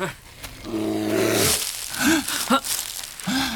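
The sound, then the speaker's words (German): A deep, rumbling bear growl swells for over a second, followed by several shorter grunting snarls, the sound rough and throaty, as the bear trots toward a tent. “Hinter Ihnen, Angela! Ein Bär!”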